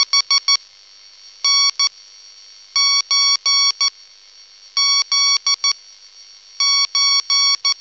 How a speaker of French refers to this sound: Le morse, en tant que son, comme ce signal suraigu, strident que nous venons d'entendre, ou en tant que motif rythmique, propre à la digression musicale.